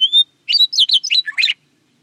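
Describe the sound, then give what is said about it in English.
A meadowlark sings a short, rich phrase: a clear opening whistle, then a quick tumbling run of liquid, warbled notes jumping between high and lower pitches, loud and without other sounds. “Fortunately for us, a song of such sustained, rich, liquid whistles at contrasting pitches gives the meadowlark singing acoustic qualities that carry over long distances.”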